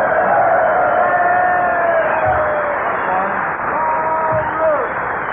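rooster crowing

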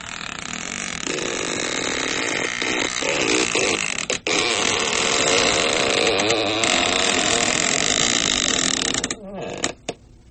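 creaking door sound effect

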